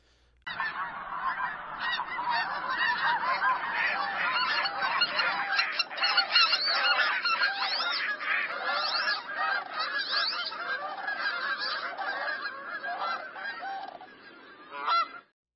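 A goose honks loudly and continuously, its harsh, nasal calls repeating in a rapid, uneven stream for about fifteen seconds with no other voices.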